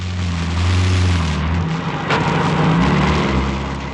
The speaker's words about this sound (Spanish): El vehículo se pone en movimiento a través de oscuras y estrechas callejuelas de la aldea.